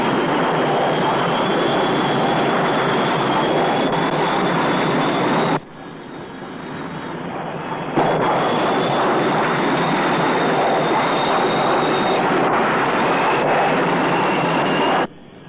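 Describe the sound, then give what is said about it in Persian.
A loud, steady roar of a Russian aircraft's engine overhead, with a high whine riding on top. It dips briefly partway through, then resumes at full strength before cutting off near the end. No voices. “اونم روسا، اونا هاشم درست بالای سر ما هست.”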